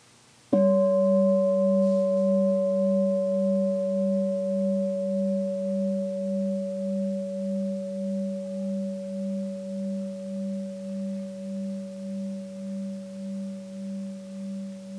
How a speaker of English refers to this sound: Now again, listen to the sound of the gong.